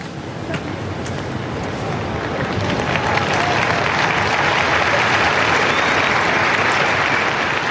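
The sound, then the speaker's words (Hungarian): Loud, sustained applause from a large crowd at the close of a papal audience and catechesis, a dense roar of clapping that swells slightly and stays steady, with no talking over it. “Kedves Mária Rádió hallgatók, a szokott módon nagy vihar tapssal zárul a mai katekézis, a mai pápai audiencia.”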